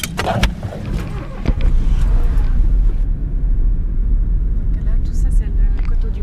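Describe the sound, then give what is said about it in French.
A car driving along to a vineyard plot of the Domaine de la Colombe in Féchy, heard from inside: a steady, loud low engine rumble and road noise, with a few sharp clicks and knocks in the first couple of seconds. “Nous sommes allés dans l'une de ses parcelles, en voiture.”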